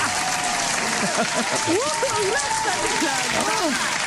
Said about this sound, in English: The studio audience is going crazy. Oh, just bananas, and they all stop together abruptly too.